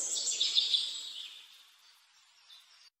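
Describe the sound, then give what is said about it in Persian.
Several quick, high bird chirps beside a river, in humid air with a light breeze, cluster in the first second over a soft hiss, then fade. One faint call returns near the end, with no one speaking. “افتاده رو سنگا کنار رودخونه، صدای پرنده ها میرسه به گوشم.”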